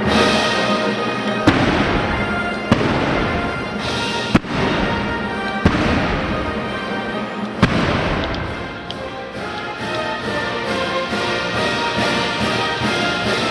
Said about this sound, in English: As the music builds, he arms cannons 1 through 5. 2 red lights blink on, warning bystanders. And then...